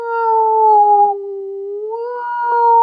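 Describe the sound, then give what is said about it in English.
A single sustained vocal tone, almost howl-like, sweeps slowly down in pitch and back up to find the resonant frequency of the mouth, its loudness dipping in the middle and swelling again near the end when the frequency is hit. No words are spoken. “So I can actually find the resonant frequency of my mouth and I hit it, I'll hear it get louder.”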